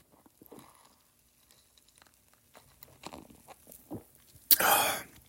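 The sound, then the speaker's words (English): Soft clicks and faint handling noises, then a single loud, slurping first sip of beer near the end, breathy and airy, lasting under a second. “So check it out. First sip.”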